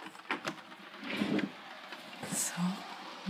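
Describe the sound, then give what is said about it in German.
Rain patters on the roof window of a small workroom in a steady, soft hiss, scattered with sharper little taps as drops strike the glass. A voice briefly speaks at the start. “Das schöne Dachfenster hat, also vor allem tönt es schön, wenn der Regen drauf geht, so wie jetzt.”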